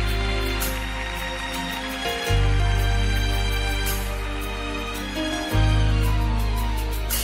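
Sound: audience clapping hands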